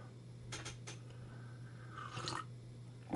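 Wet slurping of hot coffee with a couple of short sips and one longer drawn-in slurp, faint over a steady low hum, with no talking.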